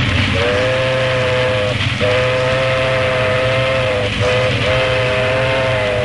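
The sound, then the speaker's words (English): Steam locomotive number 837 rumbles past with a steady, heavy roar while its whistle sounds several long, steady mid-pitched blasts separated by brief breaks, loud throughout with no voices. “That's the 837 steaming past”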